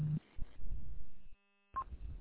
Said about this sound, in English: I got a really loud PL hum on you. Interesting.